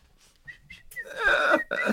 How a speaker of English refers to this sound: You're the one responsible for all that racket? That was not racket. That was A-tier whistling.